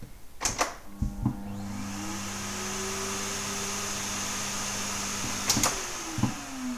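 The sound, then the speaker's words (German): A vacuum cleaner clicks on and its motor whirs up from a low hum on G, the whine gliding upward in pitch an octave to a high G before settling into a steady roar, then it switches off with a couple of clunks. No voices. “Auch der Staubsauger hat schon die Oktave hinbekommen”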